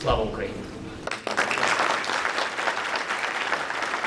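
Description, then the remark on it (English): People at NATO headquarters in Brussels give Ukrainian President Volodymyr Zelensky a round of applause on his first visit there since Russia's invasion, breaking into steady, dense applause after a brief murmur of voices; the clapping stays loud and even for several seconds without letting up. “Ukrainian President Volodymyr Zelensky on Wednesday getting a round of applause at NATO in Brussels, his first visit to NATO headquarters since Russia's invasion last year.”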